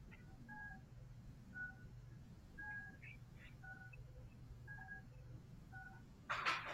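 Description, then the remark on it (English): An apartment's electronic door entry intercom keypad beeps repeatedly in short two-tone pairs, steady and moderately loud over a low hum, ending with a burst of crackly noise. “There's a lot of beeping going on. This is a noisy house.”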